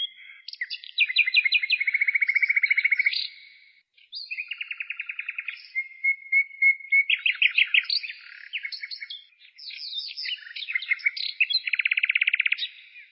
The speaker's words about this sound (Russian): Победа застала Конева в Праге. Родным он рассказывал, что тогда, впервые за годы войны, он услышал тишину и пение птиц.